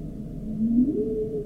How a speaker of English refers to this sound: Those are the humpbacks.